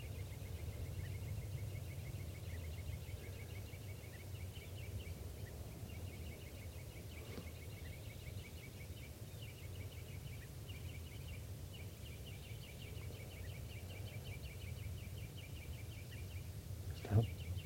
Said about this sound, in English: Recording, the birds are just perched here for a long time giving alarm calls to each other and now they're giving chitter notes.